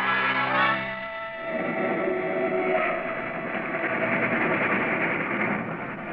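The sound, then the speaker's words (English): A loud, sustained freight train horn blares at first, then gives way to a steady, dense rumble and clatter of the heavy freight train drawing near Plattsville, filling the scene with continuous mechanical noise. “A freight train neared Plattsville.”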